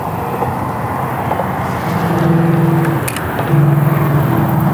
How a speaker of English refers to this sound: I'm by a bridge here. There's lots of traffic, Sunday traffic coming by.